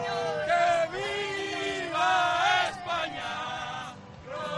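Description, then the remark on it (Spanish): Football fans chant in unison in the surroundings of the Education City stadium, where Spanish and Moroccan supporters gather, a loud, sustained crowd of voices rising and falling in rhythmic, sung phrases with no pause across the few seconds. “Pues ese es el ambiente que hay ahora en los aledaños.”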